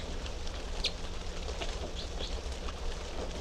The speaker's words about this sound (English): And these are the three type 3 birds in cell number 3.